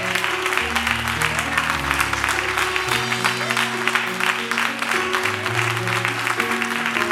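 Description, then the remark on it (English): A church audience gives God a round of applause, a dense, steady wash of many hands clapping at a constant loud level for several seconds, with sustained keyboard or organ chords playing underneath. “Give God a round of applause if you're going to do it.”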